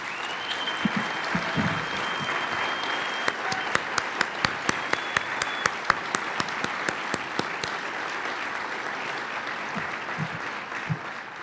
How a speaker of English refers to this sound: So with the Greater IC team, please stand and let's give them a round of applause.